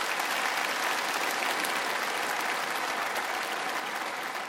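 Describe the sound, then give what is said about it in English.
A church audience claps steadily after a worship song, a dense, even wash of many hands sustained at a consistent loudness for several seconds with no voices standing out. “When we clap after a song, we're giving God praise.”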